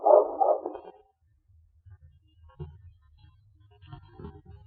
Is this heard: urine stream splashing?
no